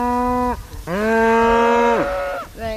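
Several Shetland cows from a herd of 26 moo in a pasture field, three long, deep calls in a row, the middle one the longest and loudest, each a rich harmonic drone, with faint outdoor background between them.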